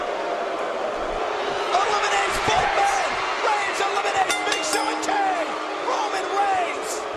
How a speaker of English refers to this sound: They're all booing.